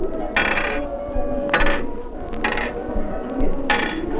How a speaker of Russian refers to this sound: Вы слышите? Это звенят обручальные кольца, стеклянный прилавок. Мы во дворце бракосочетания на улице Щепкина.